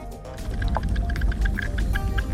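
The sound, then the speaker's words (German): Dense, continuous crackling and popping with scattered small drips and fizzing over a low watery rumble from a melting glacier, steady throughout with no voices. “So klingt ein schmelzender Gletscher.”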